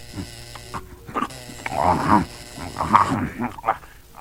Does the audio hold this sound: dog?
yes